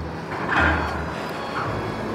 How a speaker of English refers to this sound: Yep, we're back with big lorries again.